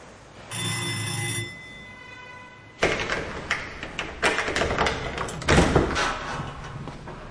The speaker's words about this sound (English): What do we do now? We ring the doorbell.